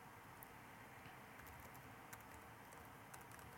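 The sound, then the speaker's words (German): Soft, irregular clicks of typing on a computer keyboard, a quick uneven patter of keystrokes, quiet, with no voices, as a First Name attribute is entered into a database record. “Nun, damit es etwas schneller geht und ihr mir hier nicht beim Tippen zuschauen müsst, füge ich hier den Rest ein.”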